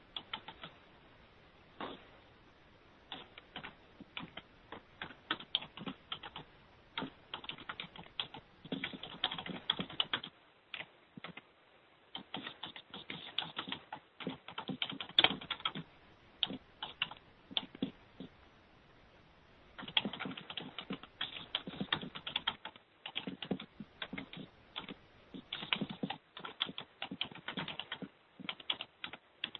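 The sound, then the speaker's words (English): A person types up a committee motion on a computer keyboard: steady typing in bursts of rapid clicks, pausing briefly now and then before resuming, with no voices. “For the typing, I gather Michael is typing this. Yes, I'm typing it up.”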